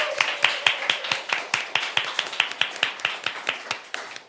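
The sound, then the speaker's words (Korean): An audience claps in a steady, even rhythm, roughly five claps per second, crisp, continuing for several seconds with no voices over them, welcoming a guest singer at a Saturday culture concert. “여러분 박수로 맞아주세요.”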